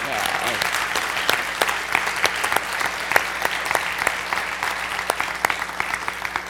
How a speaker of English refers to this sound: Shall we join together in applauding and appreciating this day?